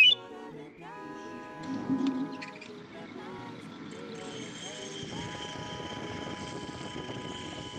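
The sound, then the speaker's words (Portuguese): A knife grinder's sharpening machine whirs steadily with a continuous grinding hum and a thin high metallic ring. At the start, the knife grinder blows short, rising, whistle-like tones announcing his arrival. Moderately loud. “Ouviram o assobio e a máquina a trabalhar. É o amolador que aí vem.”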